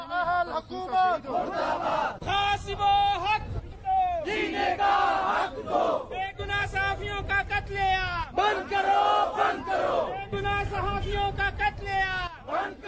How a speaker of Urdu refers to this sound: Quetta press club کے باہر منعقدہ مظاہرے کے موقع پر شرکا نے یہ نعرے لگائے.